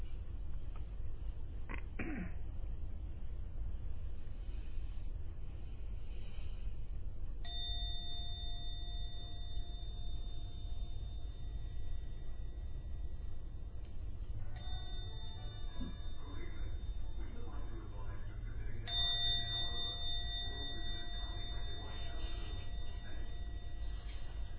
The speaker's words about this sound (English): I will now ring the gong 3 times. At the end of the 3rd ringing of the gong, open your eyes to come out from the meditation.